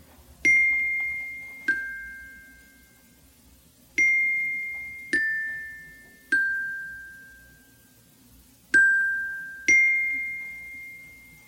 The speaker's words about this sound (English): Those are single notes on the xylophone.